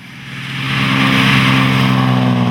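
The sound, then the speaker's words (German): A racing car roars past at over 100 km/h during the Ruselberg hill race on the Rusel road in the Bavarian Forest, its engine revving and climbing in pitch as it speeds by, loud and continuous with a steady high-speed drone. “Das wäre eine nachvollziehbare Reaktion auf ein Auto, das mit über 100 km/h durch den bayerischen Wald schießt.”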